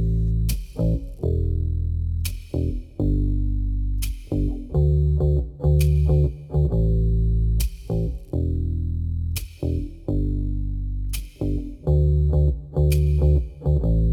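A rock song from a band's latest album plays loudly: heavily effected, distorted electric guitar with sustained chords and sharp accents about every two seconds, driving a steady rhythm. No singing or talking is heard.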